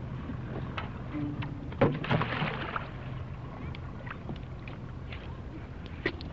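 canoe paddling through water

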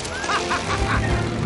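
goose honking

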